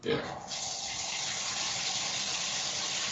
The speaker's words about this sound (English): Oh, what's that? Oh, there's some water running in the background. Sorry. No, it's all right. Well, it sounds like a waterfall.